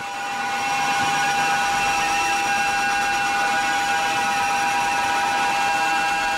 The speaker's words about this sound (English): Yeah, just an hour and a half of drone. Yeah, vinyl album sides of each of 21 minutes long of nothing but grating, screeching feedback.